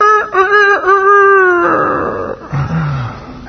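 A rooster crows loudly, a strained, harmonic call broken into a few quick segments before trailing off into rough, fading noise. No one speaks.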